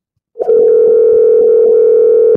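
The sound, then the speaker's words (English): A single loud, steady telephone tone on a call being forwarded to voicemail begins abruptly and holds at one unchanging pitch for about two seconds before cutting off, with no voices present. “Your call has been forwarded to an automated. Now it's voicemail.”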